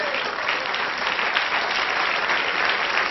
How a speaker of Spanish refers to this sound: Un aplauso al Señor.